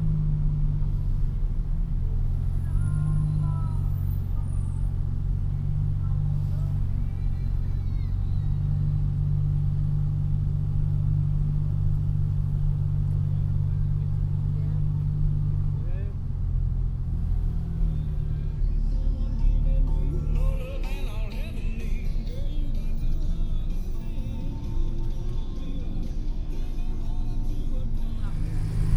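A car cruises up the tourist section of De Munburn Street in Nashville, Tennessee, recorded binaurally, its engine a steady low rumble, while muffled street noise and faint voices grow busier toward the end.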